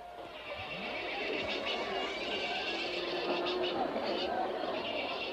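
Bustling livestock market ambience at the Komski market: a dense murmur of crowd chatter with animal calls, including what sounds like horses whinnying, rising through a steady, fairly loud din.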